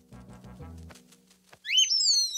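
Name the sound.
baby bird chirping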